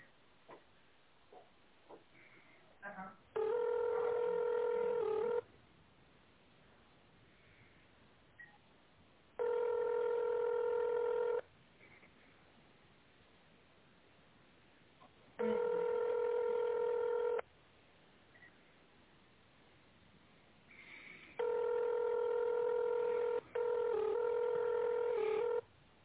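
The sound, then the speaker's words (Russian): Telephone tone-dialing beeps sound as steady electronic tones in roughly two-second bursts, repeating with pauses of about four seconds; the final two bursts run back to back, on a call to the company Oblachnye Seti (Cloud Networks). No one speaks. “Пожалуйста, наберите номер сотрудника в тоновом режиме или дождитесь ответа секретаря.”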